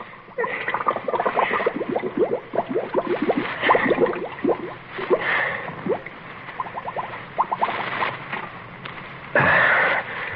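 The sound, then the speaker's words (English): A man gurgles and chokes as another man bends his arm and forces his head under water, bursts of bubbling and sputtering coming in rapid waves, punctuated by splashes and a loud thrashing splash near the end. “Get that head of yours under the water. No. Drink it, Rico. Fill your double-crossing lungs with a drink.”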